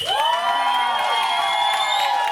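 A live audience cheers loudly and steadily for the evening's competitors, high whoops and sustained shouts rising over a faint wash of clapping, continuous without a break.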